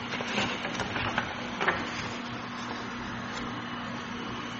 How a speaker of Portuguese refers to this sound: Peraí, estou virando a página, meu irmão. Está difícil virar essa página aqui. Aí, tá vendo? Pulou uma.